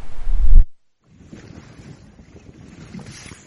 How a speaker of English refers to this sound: I leave you with that vision of HMS St. Mary's under full sail, being driven along by the wind.